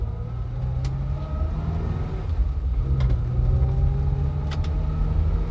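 A steady engine drone and road rumble from inside a car being driven faster, low and continuous with a slight rise in loudness midway, plus faint clicks and rattles.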